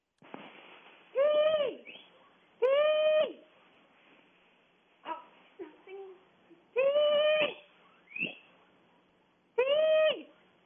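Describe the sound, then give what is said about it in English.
A female guinea pig's high, squealing whistles repeat in loud bursts with softer chirps between, heard through a rotary phone pulled close to her cage, sounding thin and tinny and bird-like. “On the count of three, let's get the guinea pigs to sing”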